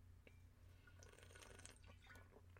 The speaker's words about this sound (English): When we had the home church, so I was drinking water and tried to talk, which means my career as a ventriloquist is over.